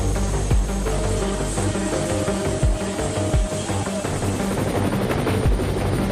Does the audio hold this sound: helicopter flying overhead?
yes